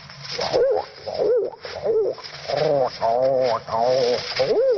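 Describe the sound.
A voice imitates pigeons as performed on the radio show Mr. District Attorney, making a steady run of throaty, warbling coos with short breaks between them, fairly loud, with no other sounds around it.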